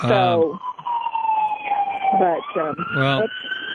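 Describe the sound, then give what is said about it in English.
An emergency vehicle siren wails steadily throughout, its tone slowly sagging in pitch then rising again, while people talk over it in short bursts. “I hope that car's not headed to your house.”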